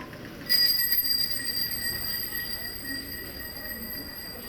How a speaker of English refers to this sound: Here's bicycle passers with bell ringing in a side street in Alexandria, Egypt.